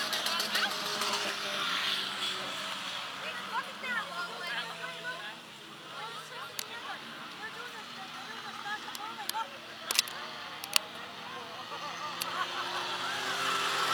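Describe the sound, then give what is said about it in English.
Demolition derby cars, including the number 11 and number 28 cars, running in the infield early under a steady roar of crowd chatter, with scattered honking horns and a few sharp metallic bangs cutting through the din. “we got Eddie Hay, the number 11, and the number 28. They got their own little demo going here a little bit early”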